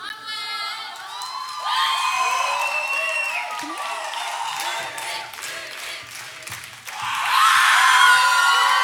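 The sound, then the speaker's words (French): A large crowd claps and cheers with whoops and high shouts, a dense, sustained roar of applause that swells louder toward the end. “Ben là, vous applaudissez. Et ben voilà, vous voyez, vous applaudissez.”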